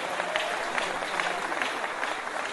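A crowd claps steadily throughout, a dense, even wash of many hands with no clear individual beats, holding at a fairly strong level for the whole stretch.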